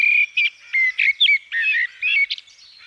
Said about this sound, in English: And soon they were no longer just birds, but became wren. Robin. Blackbird.